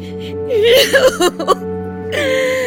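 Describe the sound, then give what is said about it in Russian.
A woman in wartime Tobolsk, Siberia, cries over her missing son, called up to the front, in wavering, sobbing wails that rise and break into short catches, then trail off into a longer strained whimper over a steady low hum. “Бедная женщина. Как она плачет.”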